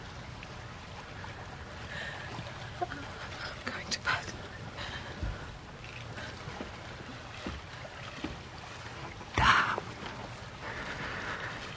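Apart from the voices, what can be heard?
boat moving on water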